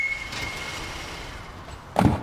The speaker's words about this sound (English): Aha! Did you hear the squeal of the brakes and the thump of the car door? Onomatopoeias all around us. That must be Meg Medina.